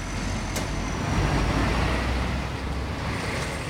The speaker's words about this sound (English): Thousands of trucks snake their way into the entrance of the Wenjindu port. It's one of several crossings in the narrow border between mainland China and Hong Kong, a gateway to the rest of the world.